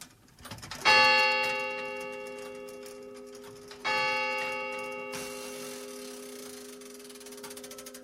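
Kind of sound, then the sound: household object, clock ticking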